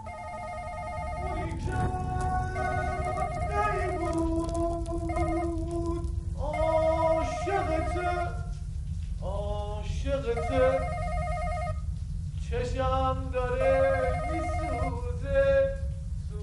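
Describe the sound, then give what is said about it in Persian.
A melodic electronic ringtone from a telephone called by firefighters plays on and on, its bright tune looping through repeated phrases over a steady low rumble, with no one picking up. “چرا جواب نمیده اینا؟ دوباره بزن.”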